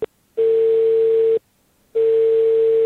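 A telephone ringback tone sounds while a call is placed to an investor from Radio Łódź: two long, steady tones of about a second each, separated by a pause, with a short blip at the start and no voices.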